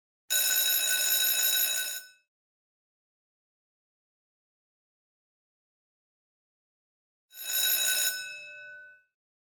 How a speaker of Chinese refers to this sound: 对不起，刚才是学校铃声，现在是休息时间。